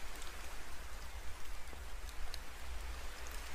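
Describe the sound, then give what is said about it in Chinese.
Steady rain pours down in a dense, continuous hiss, with scattered brighter drops pattering on a surface and a low rumble underneath, no voices present. “世间万物离开了水都无法生存，这场雨 或许是某人的祈祷灵验之后的结果呢。”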